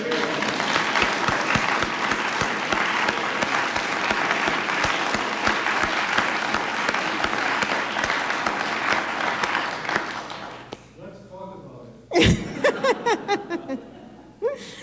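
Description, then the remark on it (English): A large audience claps steadily for about ten seconds, dense and sustained, then dies away; a burst of loud voices, heckling from the back, and scattered laughter breaks out near the end. The audience is answering a question about missing Martin's voice on NPR's classical music program Performance Today. “The crowd is turning ugly. There's heckling in the back.”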